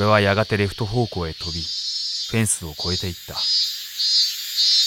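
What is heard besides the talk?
cicadas buzzing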